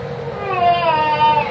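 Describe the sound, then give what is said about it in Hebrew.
A small girl cries while having her temperature taken, a sustained, wavering high-pitched wail that continues through the whole short moment, moderately loud with no pauses. “היא קטנה אז היא בוכה, אבל זה לא כואב.”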